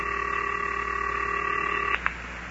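A steady electronic telephone tone hums for about two seconds, then cuts off with a short click and a brief tone burst, as a phone is dialed to call the Wunderlich twins. No one speaks.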